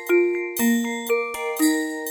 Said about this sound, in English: Bells and cymbals, cymbals, glockenspiel.